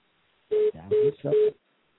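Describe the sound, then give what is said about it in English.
A phone rings with three short, evenly spaced electronic tones in quick succession, loud, with no one talking over it. “Somebody's phone rang.”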